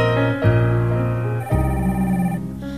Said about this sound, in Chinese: 哎，小姐，跟你朋友讲一下好不好？下次啊，快递手机这种东西哦，要记得关机啦，啊，不然那半夜来电跟那个鬼来电一样，吓死人了。